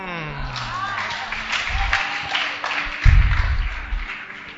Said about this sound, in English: Some of you that are happy and clapping.